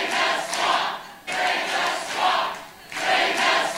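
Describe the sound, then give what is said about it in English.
A large crowd at a 2016 Donald Trump campaign speech roars and applauds an applause line, the noise rising and falling in three rhythmic swells like a chant, loud and continuous with no single voice standing out. “One of the big applause lines in his speeches during 2016.”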